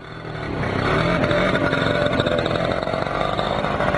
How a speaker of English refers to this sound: It's first light at the start of a long summer's day as two dozen scooters rev their engines in a hotel parking lot in Burlington, Ontario. It's a start and finish line for a great lake journey.